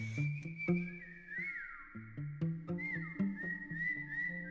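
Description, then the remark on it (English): A person whistles in long, sustained tones that slide up and down in pitch, whistling back and forth through the night to a partner at the other end of a block of cells. It is heard over a low droning background with occasional soft knocks. “We spent, like, the whole night whistling to each other.”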